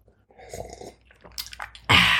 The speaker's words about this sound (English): hang on, let me have a swig of my wine. Do you want to hear the ice cubes? Ooh.